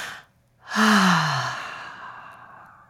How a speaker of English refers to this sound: So the very first thing I do is breathe. I know it sounds really simple. Breathe.